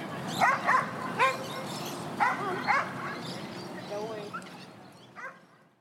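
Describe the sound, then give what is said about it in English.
A dog barks at a dog park in short, sharp bursts, a few in quick pairs, with higher yips trailing off, over an open outdoor hubbub with faint voices in the background. “Like me, right now, I'm at the dog park with my boyfriend's dog.”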